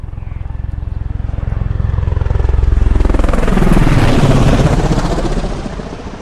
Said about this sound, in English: You sure that's from the helicopter? Yeah, that's from the helicopter. It went right over. Wow. That is amazing.